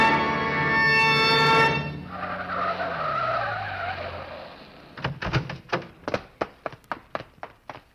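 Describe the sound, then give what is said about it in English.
A car driven by a woman pulling over brakes hard, its tires squealing loudly as it skids, the engine winding down to a stop, followed by a quick series of sharp clicks and taps. “Dale, pull over! Hey, she sees me, Roy. She's stopping.”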